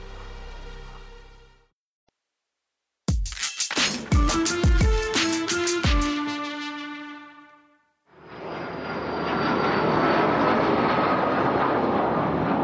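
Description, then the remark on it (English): A steady, dense roar of a private jet's engines on a flight leaving Mexico City, with a thin high whine on top, rising in after a brief silence and a burst of sharp struck tones, then holding constant. “They put us on, they have like a big, like, private jet. We're on the plane with a few agents, one of them being the agent from the gym.”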